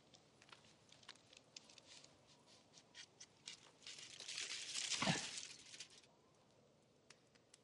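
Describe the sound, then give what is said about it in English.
Crinkly rustling of a paper or foil wrapper, building to a quick ripping tear around the middle, then settling into faint crackles. No one speaks. “Which end should we open first? Just do it quick, like a band-aid.”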